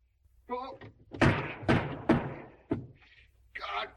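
Hard raps of a cane on a wooden front door, loud: three heavy blows in quick succession, then a fourth after a short pause, with brief muffled vocal sounds before and after.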